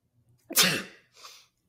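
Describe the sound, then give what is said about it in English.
A person performs a fake sneeze: a faint catch of breath, then a sharp, loud burst of air, followed by a softer, breathy second burst trailing off. “Can you do a convincing fake sneeze?”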